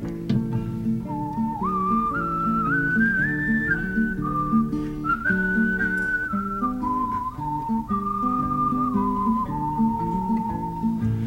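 A clear, steady whistled melody carries a lively, bouncing Irish folk tune over a strummed accompaniment, rising and falling in smooth sustained notes for several bars with no voices.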